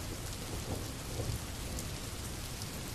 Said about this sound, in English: I know you still don't like being out in the rain, but you seem rather antsy.